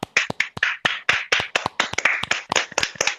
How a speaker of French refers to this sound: Nous allons, chers amis, applaudir les radios voisines qui, à cette heure-ci, nous refilent une poignée d'auditrices et d'auditeurs. On les applaudit.